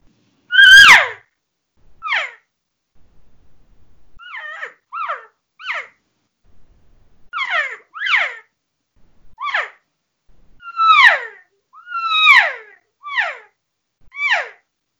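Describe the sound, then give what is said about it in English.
About a dozen short, soft, nasal mews, each a quick falling whine, come one after another with brief gaps between them. They are a few easy imitation cow calls blown on a game call to start a calling sequence, with no talking. “And so a lot of times, you know, when first start, it just starts with, you know, a few easy cow sounds.”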